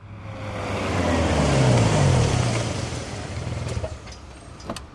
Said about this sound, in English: I arrive in San Diego and drive to Petco Park. The traffic is terrible. I'm late.